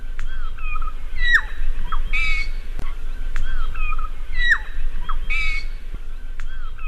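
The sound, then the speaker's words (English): A regent honeyeater sings a harsh, squawking little friarbird song, delivering the same scratchy, gurgling phrase twice in clear succession, over a low rumbling background. “Here's another one of a regent honey eater singing another bird's song.”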